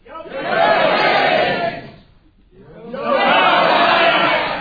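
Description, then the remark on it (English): A debate audience at the London School of Economics roars and shouts loudly for about two seconds, voting for Keynes, falls briefly quiet, then erupts again in a second sustained wave of massed yelling. “Well, he who shouts loudest shouts last, I think, from there.”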